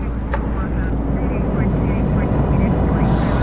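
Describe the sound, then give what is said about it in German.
A space shuttle with a nuclear fusion drive launching while people are all around: a loud, continuous roar with heavy low rumble and hissing upper noise, holding steady for the whole stretch with a few faint higher-pitched tones flickering above. “Da startet jemand sein Shuttle, obwohl überall Menschen sind.”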